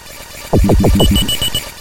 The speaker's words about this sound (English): Also, the beeping sound is getting louder. Ooh, look at that, it's getting faster.